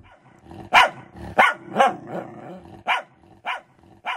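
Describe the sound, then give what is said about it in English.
A dog barks loudly, about six sharp barks in uneven succession, with a low rumbling tone between them and no voices. “This is the dog from Unit 302.”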